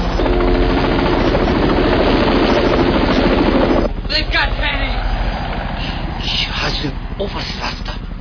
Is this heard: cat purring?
no